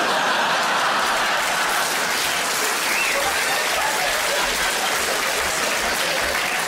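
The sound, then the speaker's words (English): Steady, dense applause from a comedy show audience, loud and continuous for the whole stretch, with no breaks or voices standing out above the clapping. “I don't quite know what that round of applause was for.”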